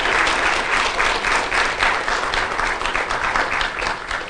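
An audience claps in a sustained round of applause, dense and steady for about four seconds, with a bright, crackling texture and no voices standing out.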